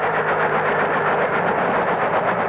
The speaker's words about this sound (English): at this moment is riding in a helicopter. The copter is hovering over a large clearing deep in a South American jungle.